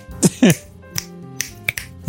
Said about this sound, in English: Wait, are we doing the slow clap version of the snaps?